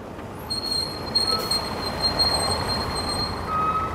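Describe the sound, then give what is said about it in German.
A bus pulls up and stops across the street in front of a hostel to pick up a school class, its engine rumbling steadily beneath thin, sustained high-pitched brake squeals, with a new whining tone rising near the end. No one speaks. “Vor der Herberge, auf der anderen Straßenseite, hält gerade der Bus, um die Klasse abzuholen.”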